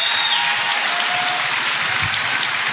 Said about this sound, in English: So, listen, a round of applause for the panel up here.